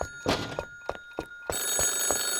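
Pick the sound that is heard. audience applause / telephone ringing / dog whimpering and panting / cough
telephone ringing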